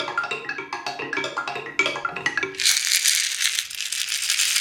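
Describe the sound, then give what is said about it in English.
Shells dropped by children making a river sound clatter onto the ground in a quick, uneven run of bright clicks, then merge into a steady, dense rushing rattle like pouring water, with no voices. “when the shells land on the ground and the children are making the river, it makes this sound which is really nice to the ears”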